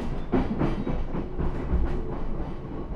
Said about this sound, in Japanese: この電車は中央線各駅停車高尾行きです。次は樽橋です。 This is a 中央 line train for 高尾。 The next station is 樽橋。